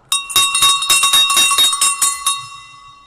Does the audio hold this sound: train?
no